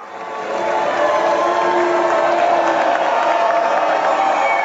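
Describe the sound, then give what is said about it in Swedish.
A large audience at the Kennedy Center roars in a sustained wall of noise, with cheering, clapping and scattered booing blending together, loud and continuous throughout, as Donald Trump and Melania Trump enter the auditorium for a performance of Les Misérables. “Donald Trump och hans fru Melania möttes av både burop och applåder när de gjorde entré i salongen på Kennedy Center.”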